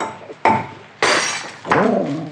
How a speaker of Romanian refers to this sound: Să-i spargem numai gâtul. Așa o să le putem scoate fără să stricăm toată sticla.